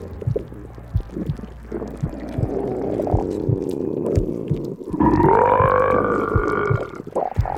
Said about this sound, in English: Oh, whoops. Looks like I burped up your unmentionable.